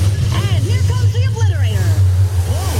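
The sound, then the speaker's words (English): A monster truck engine at a monster truck rally, in a Progressive advertisement with Flo and Jamie announcing, roars with a loud, steady low rumble that holds for the whole stretch. Sweeping rising and falling tones and indistinct voices ride on top of the drone. “Progressive presents Flo and Jamie announcing a monster truck rally.”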